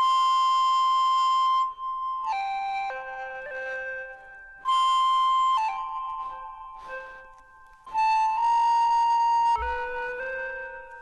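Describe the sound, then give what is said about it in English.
An electronic, flute-like tone, made by blowing across a phone's microphone and touching on-screen buttons, plays a wandering melody of sustained notes that step between pitches, in three loud phrases separated by brief dips, with no talking. “I'm just blowing across this microphone here, which is part of the phone anyway, and it's catching that sound and turning it into an electronic tone.”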